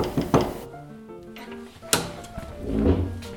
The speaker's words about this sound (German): Die Tür klemmt, die verzieht sich immer.